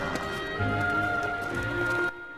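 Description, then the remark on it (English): A horse's hooves clip-clop at an unhurried walk, a short run of steady steps, set against a continuous tonal background that cuts off abruptly near the end. “She climbs off her horse and takes out a leather purse.”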